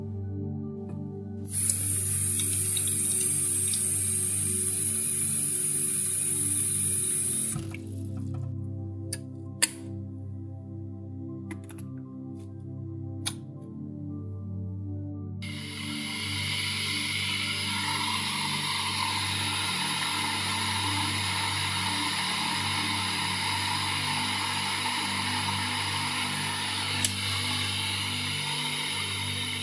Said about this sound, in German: Oder wenn wir uns einen Tee zubereiten, wir hören das Wasser aufkochen, fühlen den Dampf, schmecken die Kräuter heraus.